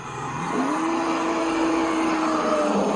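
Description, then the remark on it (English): A forest elephant in the middle of the Congo at about 3 a.m. gives a long, low droning call that rises and then holds steady, over a constant wash of night insects and crickets chirring at a high pitch. “So we're listening to forest elephants at about 3 o'clock in the morning in the middle of the Congo.”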